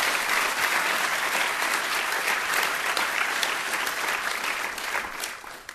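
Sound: audience applause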